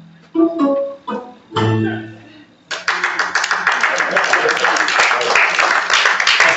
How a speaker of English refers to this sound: That's an applause for all the dads in the room, right?